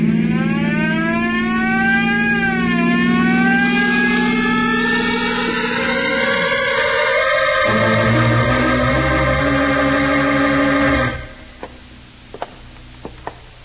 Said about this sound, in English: You better go a little faster, then. That's a good idea. Use that siren.